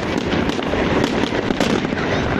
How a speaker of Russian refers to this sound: В тот же вечер в Грозном состоялось новогоднее праздничное шоу, которое завершилось салютом.